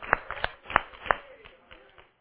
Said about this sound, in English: Oblivious to why he's being clapped for as he walks in the door.